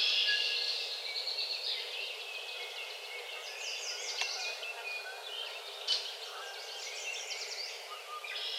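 dawn birdsong

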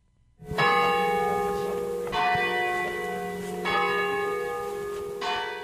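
church tower bells pealing

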